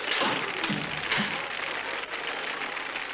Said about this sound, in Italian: Ed ecco che si sente un sommesso bussare. Tutti si fermano di colpo. La musica tace. Chi è?